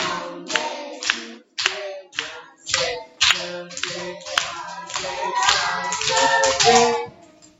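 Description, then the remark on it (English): Steady hand claps land on the beat over an upbeat, bouncy days-of-the-week song, fairly loud, repeating evenly from start to finish. “7 days are in a week. I like to clap them on Sunday.”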